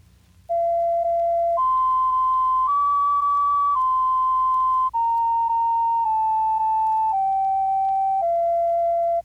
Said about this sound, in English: Here's the simplest and shortest tune we could think of. It's only part of a tune, really, played in pure tones, with none of those additional pitches we heard in the note played on the piano.